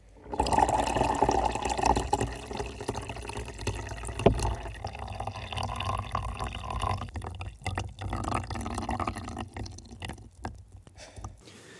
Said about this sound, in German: Ach so, bisschen Wasser noch drauf.